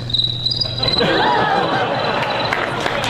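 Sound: voice imitating cricket chirping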